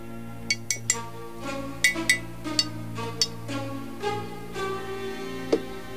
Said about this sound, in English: The model is set on a plinth. Richard tries to prise it off with a knife but fails. He taps the base, then the statue with his knife.